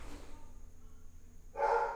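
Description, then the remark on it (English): A family's dog barks loudly at home, a short bark at the start and then a stronger, sharper bark after a stretch of quiet near the end. No one is talking. “The dogs are driving me crazy.”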